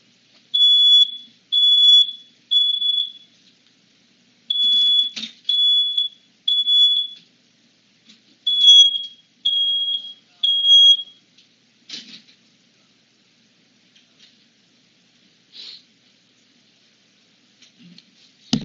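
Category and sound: household object, smoke detector alarm beeping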